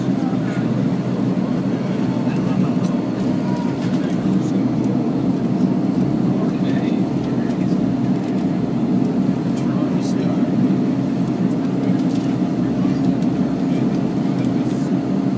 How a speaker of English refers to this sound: It's wobbling. A little bit, because they got the brakes on big time. Because the propellers are spinning really fast.